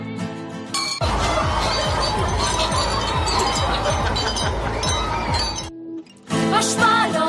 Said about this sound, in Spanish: Es inconfundible este sonido de copas chocando en un brindis, pues es el sonido que da nombre a un festival gastrocultural que se va a estrenar este fin de semana en Bilbao.